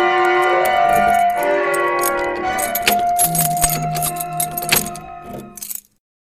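A door is locked and a bolt thrown: jangling metal and a run of sharp clicks and clacks over about three seconds, set against a sustained tonal backdrop that cuts off abruptly at the end.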